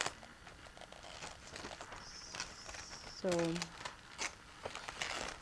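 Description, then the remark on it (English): Papery rustles and crinkles as book pages are turned several times, soft and irregular, with a brief high squeak partway through and a faint background hum. “Yeah, I'm just making noises here, turning pages, and showing you the layout of how a house, the loom was located down below, and the living quarters above.”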